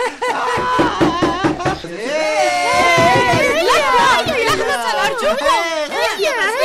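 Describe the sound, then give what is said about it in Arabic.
A quick run of about eight knocks on a door in the first two seconds, then lively, high children's voices talking and laughing over where the knocking was. “قلت لكم هناك من يطرق على الباب.”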